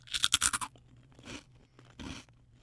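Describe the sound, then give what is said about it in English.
Loud, crisp crunching of a cricket flour chip being bitten, a rapid burst of sharp crackles, followed by two softer chewing crunches spaced apart. “Cricket flour chips, I guess they are.”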